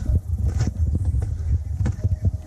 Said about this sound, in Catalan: Sentim unes passes, David. I unes esquelles.